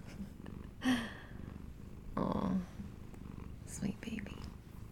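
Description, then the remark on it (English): A cat purrs steadily and close up, a continuous low rumbling throb that runs the whole time, with a few soft whispered bursts of voice over it. “You want some cat ASMR?”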